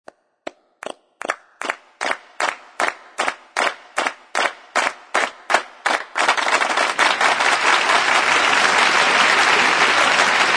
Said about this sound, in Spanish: Un aplauso para los espectáculos que empiezan en hora.